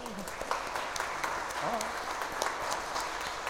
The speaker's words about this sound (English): Let's welcome them with a big round of applause. Yay!